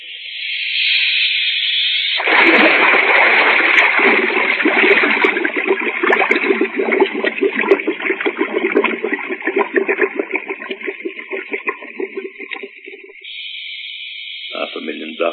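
A steady airy hiss gives way to loud, churning splashes and bubbling water for about ten seconds as a diver in a bolted helmet is put over the side into the water, then the hiss returns alone.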